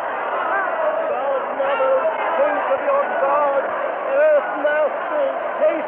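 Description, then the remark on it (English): A dense, terrified crowd clamors continuously, many overlapping voices shouting and calling at once in a steady, loud roar with a slightly muffled, narrow-band quality. “There's a voice over the crowd somewhere. They hear it. They're quieting down.”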